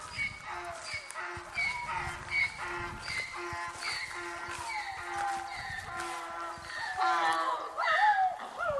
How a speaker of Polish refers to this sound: Tu jest klacz druga, osioł się odzywa.